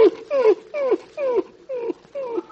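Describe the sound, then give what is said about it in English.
A dog whimpers in a run of about six short, high whines, each sliding downward in pitch, coming in a steady rhythm, fairly loud with no talking. “for the last time, get your leg out of that dog's mouth.”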